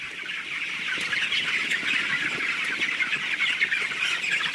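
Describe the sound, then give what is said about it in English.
A dense, continuous chorus of chirping and peeping from about 23,000 young broiler chickens inside a sealed, climate-controlled poultry house at Valley Pike Farm in Virginia's Shenandoah Valley, steady and loud throughout with no talking. “About 23,000 young chickens will spend most of their lives in this sealed, climate-controlled birdhouse.”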